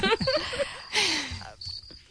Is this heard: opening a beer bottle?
no